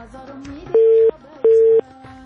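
A telephone busy tone after a listener's call to a phone-in program dropped: two steady, evenly spaced beeps at a mid-low pitch, each about a third of a second, clearly louder than a faint murmur beneath.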